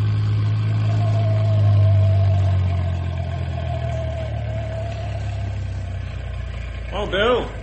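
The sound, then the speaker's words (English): A truck engine idles with a steady, deep low rumble and a faint whine riding above it, continuous, until a brief voice breaks in near the end. “You better meet the truck outside of town at Beaver Creek School instead of the town limits like we usually do.”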